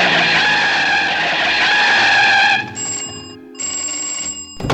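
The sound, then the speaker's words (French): A large red car's engine roars loudly as it accelerates at full speed, then gives way to a sharp, high-pitched squeal of brakes as the car stops in front of a door. No one speaks. “Mais un jour, à l'heure du thé, une énorme voiture rouge arrive à toute allure et freine devant la porte.”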